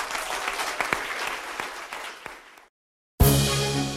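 An audience at an Amway Business Institute presentation applauds steadily for about two and a half seconds, a dense wash of clapping that fades into silence, then bursts back in suddenly at full loudness.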